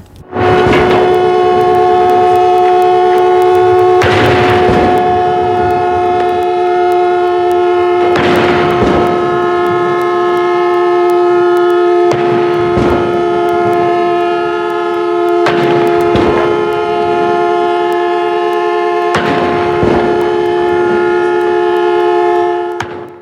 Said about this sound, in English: Right now we are waiting for the seconds of the proklamasi to begin. The firing of cannons is starting to show that the event is starting real soon.